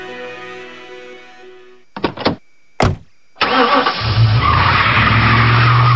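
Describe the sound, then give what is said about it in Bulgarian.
A car door thuds a couple of times, then an engine roars and tires screech loudly as the car speeds off in a hurry to the supermarket to buy forgotten diapers, the skid continuing in a long, harsh squeal. “Така звучи спешното тръгване към супермаркета, защото си забравил да купиш памперси.”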